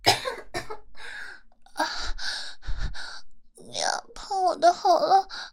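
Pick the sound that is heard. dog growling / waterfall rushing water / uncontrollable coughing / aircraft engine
uncontrollable coughing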